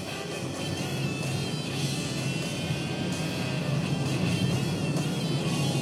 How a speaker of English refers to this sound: That was a car. Yeah, it was. I just didn't see it. Man. Hyundai blind spots.